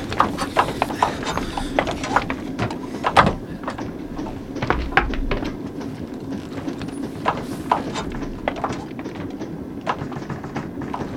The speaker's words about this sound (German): Moment mal! Hört ihr das? So ein Klopfen? So ein Klopfen? Ja, das kommt aus dem Speisewagen. Ja, das kommt von der Klotür hier. Wer ist da drauf? Er scheint ziemlich dringend wieder raus zu wollen.